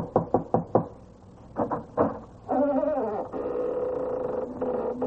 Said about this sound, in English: It's just an old house. Here, I'll knock on the door.